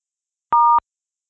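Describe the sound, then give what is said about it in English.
One short touch-tone beep from a telephone keypad as a phone number is entered into an automated phone menu, a single dual-pitched key press lasting about a quarter second, clear, with silence before and after. “Enter a phone number or a list number and then press the pound key.”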